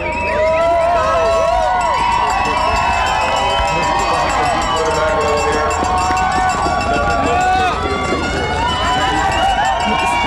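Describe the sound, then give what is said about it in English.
A large crowd on Front Street cheers and whoops continuously as a musher and his sled dog team arrive at the finish of the 2014 Iditarod, many overlapping voices rising and falling in a warm, sustained roar of celebration, loud throughout. “You can hear that crowd, a very warm celebration welcoming Aaron in.”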